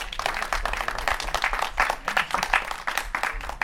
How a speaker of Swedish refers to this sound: Skulle ni kunna välkomna med en liten varm applåd?